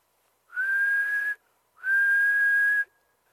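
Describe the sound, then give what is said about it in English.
A bird sings two long, clear whistled notes, each holding a steady mid-high pitch that rises slightly, separated by a short pause. The notes are fairly loud, with no talking. “Oh, he's singing at us. What a neat bird.”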